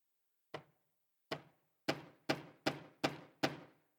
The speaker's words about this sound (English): Banging on the door because your life, you realize, is lost if you don't pass through the door.